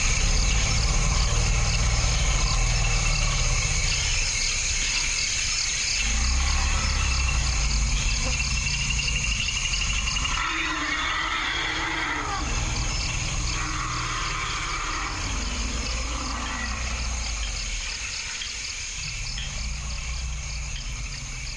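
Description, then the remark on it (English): A dense, steady chorus of crickets chirping fills the background while elephants at peace in their forest habitat in the Zangabai rumble low and let out a trumpeting call partway through, with no one speaking. “the birds and the creatures of the forest, the crickets and the elephants trumpeting.”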